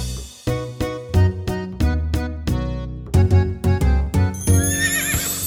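A steady, rhythmic clip-clop of hooves trots along, then a horse lets out a high, wavering neigh near the end. No one speaks.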